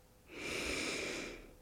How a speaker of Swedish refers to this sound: Välkommen, nu börjar vi. Ta ett djupt andetag in.